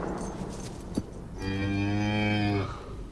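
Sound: cow mooing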